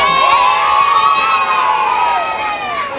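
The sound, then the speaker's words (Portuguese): A crowd of young children aged 4 to 6 shouting and squealing together in a schoolyard in the East Zone of São Paulo, Brazil, high-pitched voices overlapping in a loud, continuous din that eases slightly toward the end. “Para estas crianças de 4, 5, 6 anos, o pátio da escola na Zona Leste de São Paulo é como um oceano.”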